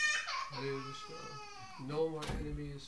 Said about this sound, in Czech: Když křičí děti, nejsme rozrušení. A když nekřičí, tak taky nejsme rozrušení.